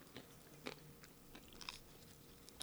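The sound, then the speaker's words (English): Crunching as someone bites and chews a crisp margarita flatbread with balsamic vinaigrette and crispy edges, with several sharp, irregular crackles spread over a couple of seconds and no talking. “Got a nice crunch to it.”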